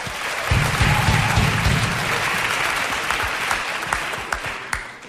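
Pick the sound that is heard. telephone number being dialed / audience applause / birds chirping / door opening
audience applause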